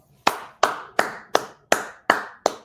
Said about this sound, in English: Round of applause.